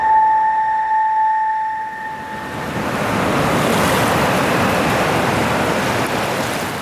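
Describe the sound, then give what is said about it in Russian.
Sea waves wash steadily onto a beach at Asari in Jurmala, by the dune zone, in a loud, continuous rushing roar, while a thin high tone hangs over the first few seconds and then fades away. “Юрмала Асари в дюнной зоне недалеко от моря здание в 4 этажа с видом на пляж.”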